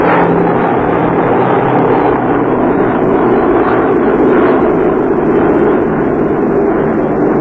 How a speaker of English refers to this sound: In broad daylight, mighty squadrons roar across the North Sea.